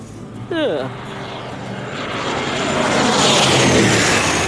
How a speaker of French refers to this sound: Voilà, l'avion s'est posé. Après quelques tours sur la piste, les passagers vont enfin pouvoir descendre. 8 heures de vol, tout de même, pour retourner en Suisse.